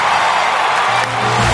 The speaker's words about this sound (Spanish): Carlos Herrera, fuerte aplauso.